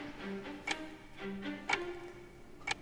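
A game clock, just started for the Spassky–Fisher chess match in Reykjavik at 5 o'clock, ticks steadily: three crisp clicks spaced one second apart, fairly quiet, over a faint low background hum with no voices.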